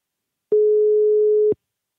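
A single telephone ringing tone of a call to someone in a car on the way back from Heerenveen: one steady, mid-pitched beep lasting about a second, clear and even, with silence before and after and no voices.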